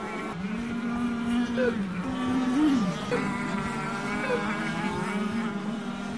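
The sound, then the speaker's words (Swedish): Several racing motorboat engines, including two yellow boats and a red one, whine and drone continuously at full throttle during a race, their pitch swooping up and down as the boats race past, loud and steady throughout with no talking. “Det var 2 gula båtar som trängdes. Och så kom det en röd och trängde ut Anders.”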